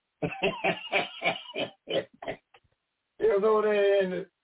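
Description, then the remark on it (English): A person imitates a donkey's bray: a run of rapid, harsh, rhythmic voiced bursts, a brief pause, then one long drawn-out harmonic cry, fairly loud. “brave, a noun, the loud, harsh crack of a donkey.”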